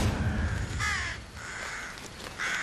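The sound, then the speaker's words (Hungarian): Several crows caw in harsh, overlapping calls at a nesting colony, a few loud bursts against a busy background of other birds, with no one speaking. “A varjúszülők a fészkelő telepet egy pillanatra sem hagyják őrizetlenül.”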